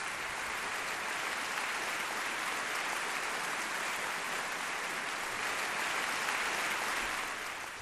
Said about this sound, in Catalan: Amb aquests aplaudiments va rebre el públic que omplia de gom a gom el Palau de la Música de Barcelona a Teresa Rebull el dia 6 de juliol de l'any 2006.